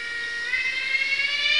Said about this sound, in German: Zikaden können übrigens sehr laut singen. Teilweise so laut, wie eine Lokomotive pfeift.